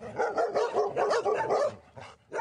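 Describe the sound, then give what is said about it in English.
A chorus of 25 rescue dogs, rescued from overseas and just arrived in Toronto, Canada, barking and yipping over one another in quick, overlapping bursts, loud, with a brief pause before more barks break out. “It is the sound of freedom for 25 dogs who are now here in Toronto.”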